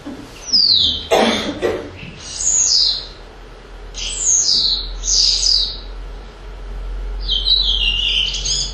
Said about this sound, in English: Yeah. House sparrow.